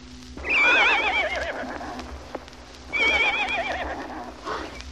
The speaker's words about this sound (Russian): Лошадь! Посмотрите, действительно лошадь.